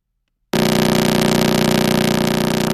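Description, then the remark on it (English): A simulation of the Crab pulsar's radio pulses, with a 33-millisecond period: a loud, steady buzz begins abruptly after a moment of silence, its rapid pulses blurring into a continuous rough drone like a revving engine, with no voices present. “The next one is actually the Crab pulsar, 33 milliseconds. This is actually a simulation.”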